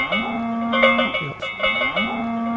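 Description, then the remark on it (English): Cowbells on dairy cattle clank in a loose, uneven rhythm, their metallic ring hanging on between strikes, while low bellowing moos rise and fall underneath. “Even though they may not have heard a cowbell in 30 years.”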